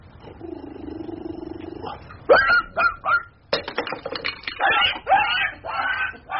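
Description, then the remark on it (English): After a low, steady whine, a dog gives a few sharp, high yelps in quick succession, followed by a burst of scrambling, clattering noise as it dashes away. “My word, that dog can run.”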